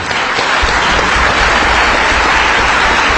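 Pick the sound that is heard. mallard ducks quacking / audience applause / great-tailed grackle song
audience applause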